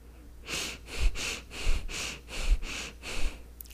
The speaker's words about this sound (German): Und dann machen wir mal ein Gegenexperiment. Und wir atmen mal ganz bewusst, ganz flach und schnell ein und aus.